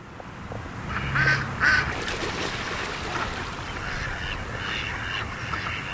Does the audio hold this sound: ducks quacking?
yes